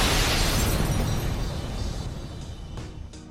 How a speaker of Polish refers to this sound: I witam serdecznie, pierdolnęła eksplozja, jak co tydzień w Regonie, w SP Radiu.